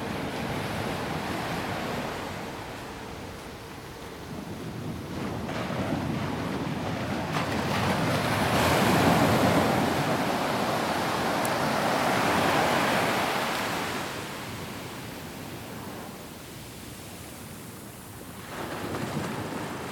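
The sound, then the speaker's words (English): Ocean waves wash steadily onto a shore by a city in Portugal, a broad continuous roar that swells and recedes in slow surges, with some wind noise buffeting the microphone and no voices. “And into the city where I lived for 40 years, by the ocean, in Portugal.”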